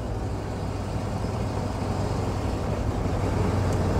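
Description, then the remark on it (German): A steady, continuous engine and road rumble from a car driving uphill on a country road in Upper Bavaria, heavy in the low end with a sustained hum, without any talking. “Schaut mal, was wir gerade an Höhe gewonnen haben eben. Wie charmant und wie elegant und wie locker der Wagen das packt.”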